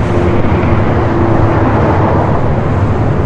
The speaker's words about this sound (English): You're probably getting a lot of road noise in one ear. I can hear it right now.